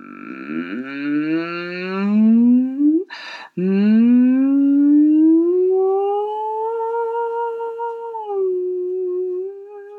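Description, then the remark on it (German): In a singing exercise with the lips resting loosely together, a single voice slides upward in a long, loud siren-like glide, lightly into head voice, breaks briefly with a breathy burst, then climbs again and levels off on a sustained hum-like tone, imitating a fire engine siren. “Bisschen wie eine Feuerwehrsirene.”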